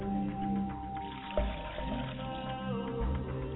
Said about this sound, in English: As I pour libation for my Father's spirit, I say Ashe.